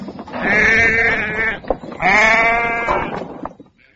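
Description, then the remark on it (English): Two loud, wavering bleats from sheep in a field, each lasting over a second with a quavering, nasal tone, separated by a brief pause, with no talking. “The next day, a wolf did come to the field. It wanted to eat the sheep.”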